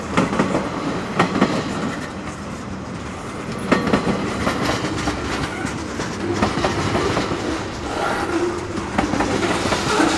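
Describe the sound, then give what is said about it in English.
A long freight train of closed-up box cars and a flat car rolls steadily past heading north toward Nashville, its wheels producing a continuous rumbling clatter with periodic sharp clicks as the cars clack over the rail joints. “All that box cars are closed up. There's a flat.”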